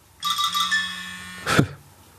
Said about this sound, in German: Jetzt klingelt hier mein Handy rum.